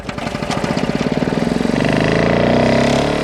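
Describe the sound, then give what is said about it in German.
A small petrol lawn mower engine sputters with a rapid pulsing chug, then revs up into a steady, loud drone, with no talking. “Ein sehr probates Instrument, sich aus seinen Sommerträumen wieder aufzuwecken, ist der Rasenmäher.”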